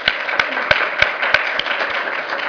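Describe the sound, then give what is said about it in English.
Audience applause for a panel of presenters at the close of a session fills the whole clip, a steady wash of many hands, with one person clapping loudly in a regular rhythm about three times a second on top. “Let's have one more round of applause for these panelists.”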